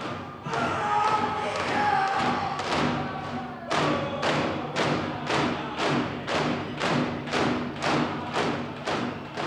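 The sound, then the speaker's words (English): Heavy drums pound in a steady, driving rhythm, about two strong beats a second, loud, with a crowd's voices humming and murmuring underneath as a drum group performs in Chiang Mai and spectators dance along. “As the beating swells, spectators dance along”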